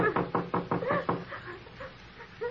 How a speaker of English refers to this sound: Well, it won't hurt just to rap on the door.